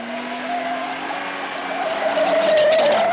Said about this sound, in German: Mann oder Frau muss halt nur fest auf die Bremse treten und mit dem Fuß auf dem Pedal draufbleiben, um dann erstaunt festzustellen, ich kann das Auto trotzdem lenken, auch wenn dieses ABS so fürchterliche Geräusche macht.